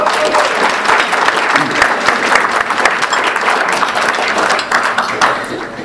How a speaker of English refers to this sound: So on behalf, let's give all of those a great big applause.